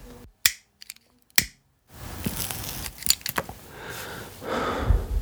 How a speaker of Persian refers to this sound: مثل همیشه پشت میزش نشست و پاکت سیگارشو تعارف کرد. منم یکی از سیگارهای خوشگلشو برداشتم و فندکو زدم.